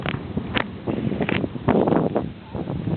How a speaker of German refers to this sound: Nimmt gerade der Wind ein bisschen zu. Ich hoffe mal, das Wetter hält einigermaßen durch.